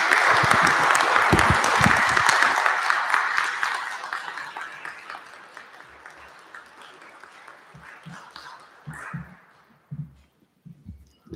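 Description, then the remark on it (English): An audience breaks into a warm round of applause for the hard work of three people, loud and dense at first, then gradually thinning out over several seconds until only scattered claps and a few soft thumps remain. “You're welcome to step up to the mic if you had anything that you wanted to add, but I'll just ask for a warm round of applause for all the hard work that these three put in.”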